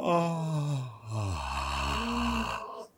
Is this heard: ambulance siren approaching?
no